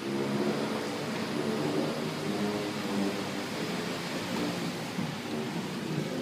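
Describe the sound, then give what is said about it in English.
Dense, steady roar of road traffic in the rain, with engines rumbling and vehicles whooshing past continuously, loud, with a broad wash of noise that could include wet tires on pavement. “It's raining, traffic's crazy”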